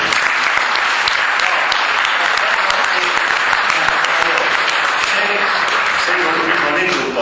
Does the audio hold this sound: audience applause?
yes